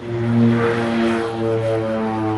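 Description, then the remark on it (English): A twin-engine propeller airplane of a small regional airline in Costa Rica that shuttles tourists drones steadily, its loud, even engine hum holding a constant pitch throughout with no voices present. “Their 8 twin-engine aircraft shuttle tourists between excursions to Costa Rica's white beaches and extravagant rainforests.”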